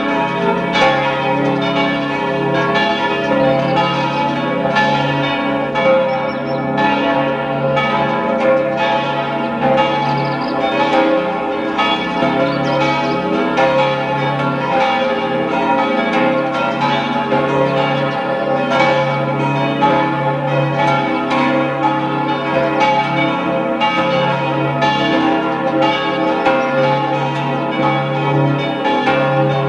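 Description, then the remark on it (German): The bells of the parish church in Freistadt, Upper Austria, peal together continuously at noon, a dense, overlapping clangour of strikes with rich ringing overtones that fills the whole stretch at a steady, loud level, with no voices. “Sie hören die Glocken der Pfarrkirche Freistadt in Oberösterreich.”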